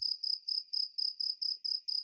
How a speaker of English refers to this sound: Why am I hearing crickets?